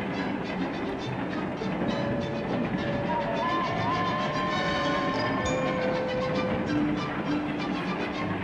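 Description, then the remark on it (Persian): A train rumbles steadily along the rails for several seconds, a dense continuous roar with rhythmic clatter and faint metallic squeals rising above it, with no one speaking; the train is about to cross into Italy. “قطار تا چند لحظه دیگه وارد خاک ایتالیا میشه.”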